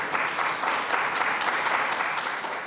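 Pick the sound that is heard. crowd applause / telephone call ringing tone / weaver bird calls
crowd applause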